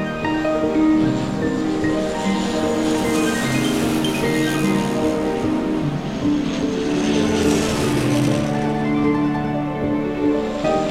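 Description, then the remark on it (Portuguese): A small propeller plane doing loops and turns in the air drones steadily overhead, its buzzing engine tone rising and shifting slightly as it passes, loud and continuous for the whole stretch with no voices. “Ouves um som vindo de cima, olhas para o céu e vês uma avioneta que dá voltas e reviravoltas no ar.”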